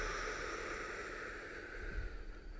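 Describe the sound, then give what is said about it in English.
A long, steady, deep inhale drawn through the mouth as if through a straw, inflating the belly, an airy hiss lasting a few seconds and tapering slightly toward the end, with no talking. “And it's almost like we're breathing in through the mouth, almost like you're breathing in through a straw. So we're going to breathe in like this.”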